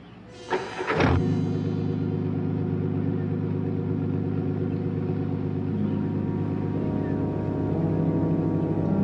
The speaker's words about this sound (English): Car started somehow. He got his car started. How come his car just up and started like that? All by itself. He wasn't anywhere near it. It just started all by itself.